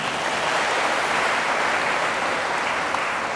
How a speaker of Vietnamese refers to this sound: Cảm ơn con, cho một tràng vỗ tay nào.